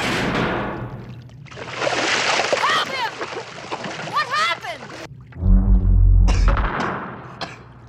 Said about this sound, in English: Luke goes down into the water, and we're left with just the sound of sewage